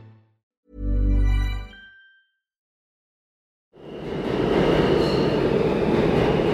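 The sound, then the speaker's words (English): A New York City subway train: a loud, low horn blast, a brief silence, then the heavy, steady roar and rattle of the train rumbling past, with no one speaking. “The sounds, the sights, the smells of New York City's subway.”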